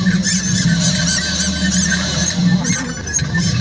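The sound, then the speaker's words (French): A dense chorus of seagulls crying, shrill overlapping squeals rising and falling without pause, loud, over a low steady rumble in the background. “Après, les goélands sont arrivés.”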